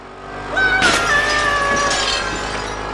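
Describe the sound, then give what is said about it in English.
Window glass shatters in one loud, sharp crash, followed by a few seconds of bright, high ringing as shards tinkle and settle. No voices are heard. “You broke my window!”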